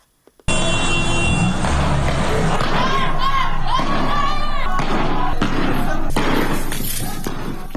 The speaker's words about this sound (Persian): در نازی‌آباد تهران تظاهرکنندگان شعارهای علیه حکومت جمهوری اسلامی سر دادند.